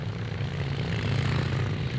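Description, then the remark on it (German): A vintage Megola Sport racing motorcycle, number 10, with a 14 hp engine, roars loudly and steadily in a motorcycle race, a deep, rough drone holding constant for two seconds with no voices over it. “Ich habe immer schon davon geträumt, auf einer Megola Sport zu fahren und bei einem Motorradrennen den ersten Platz zu machen.”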